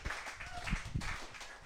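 An audience claps together in a brief, steady burst of applause, a dense patter of many hands at an even loudness, with a hint of voices mixed in underneath.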